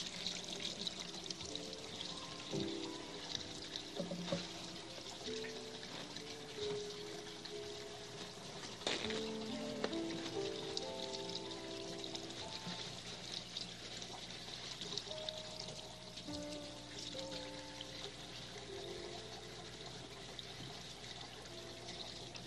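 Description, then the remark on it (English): Water pours and splashes steadily for a long stretch while water paint is cleaned off a paintbrush, a continuous rush with shifting tones as it runs over something, with occasional clinks and no talking. “This was water paint, so I can use water to clean it off.”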